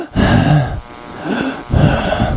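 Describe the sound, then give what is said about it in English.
A person deliberately imitates heavy, labored breathing: three loud, raspy, wheezing breaths in a slow rhythm, with a gravelly, grunting edge and no talking. “So I could walk around the day, and I could be breathing like this.”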